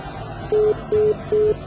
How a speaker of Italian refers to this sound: Niente, si è impallata. Comunque ha festeggiato il centesimo squillo con un attendere, prego.